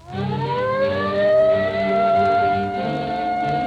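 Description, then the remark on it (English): A police car siren wails in one long, steady rising tone that holds loud for several seconds over a low engine rumble on a cold night, with no voices. “There's the police car.”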